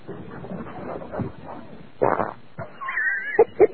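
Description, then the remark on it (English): A brief, loud, buzzy fart erupts midway through a murky stretch of low rumbling noise, followed by a thin high whine and two sharp, quick bursts near the end. “That fart out of my ass from the best cigar site on the planet”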